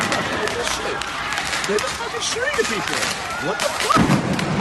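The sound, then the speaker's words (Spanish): Several sharp firework bangs go off in quick, irregular succession outdoors as a man fires 7-8 fireworks from inside a car toward pedestrians on the sidewalks within 20 metres, echoing over a noisy street crowd with people shouting in the background. “En 20 metros, este sujeto llega a disparar hasta 7-8 fuegos artificiales a los viandantes.”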